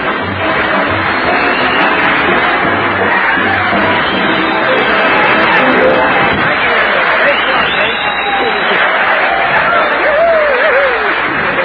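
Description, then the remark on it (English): A studio audience applauds comedian Red Skelton as he is introduced on the Raleigh Cigarette Program, clapping steadily and loudly for the whole stretch, a dense, even wash of clapping with a few cheers mixed in and no break or fade. “That kind of applause, medical science will offer you proof positive.”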